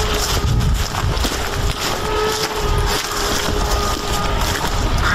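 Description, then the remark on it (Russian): A drone of unknown origin buzzes overhead with a steady, low droning hum that holds throughout, partly buried under loud, rough wind-like rumble and noise. “Опять слышно, как гудит дрон.”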